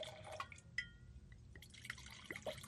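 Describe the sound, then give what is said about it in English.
Wine trickles into a glass, a quiet run of splashy drips and small rising liquid chirps over a few seconds, with no voices. “Pour me a splash. Okay. Oh, there we go.”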